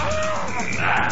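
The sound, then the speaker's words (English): A calf's moo, a drawn-out, fairly loud tonal bellow that rises and roughens toward the end, with no talking over it. “So this is like any calf, then.”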